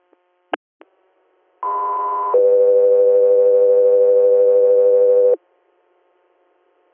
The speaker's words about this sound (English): Guthrie Air, stand by for tones.